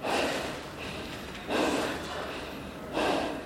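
Heavy, labored breathing up close: three loud, rasping breaths spaced about a second and a half apart, each a breathy rush of air with a quieter pause between.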